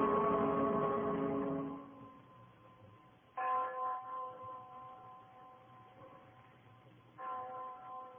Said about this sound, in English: You hear that bell